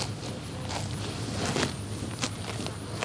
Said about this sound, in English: two dozen cows walk on acres of pasture and munch happily on grass.